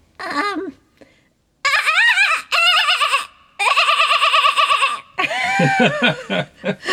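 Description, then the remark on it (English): A person imitates a kookaburra's call, with loud bursts of rapid, wavering, laugh-like cackling separated by brief pauses, rising into a longer, bleating, chattering stretch. “That was the best sheep kookaburra impersonation I've ever seen”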